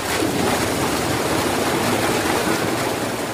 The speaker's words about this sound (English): The firefighters are clustered around two square plastic poles about 3 feet high, held up by metal frames. Another truck backs up and releases thousands of gallons of water into one of the pools.